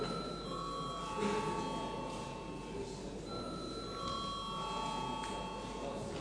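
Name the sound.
parliament bell ringing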